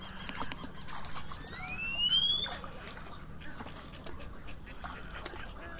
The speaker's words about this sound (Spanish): Muchas aves anidan. Este santuario ofrece de manera visible y audible la esencia de un espíritu libre y salvaje, el de las aves.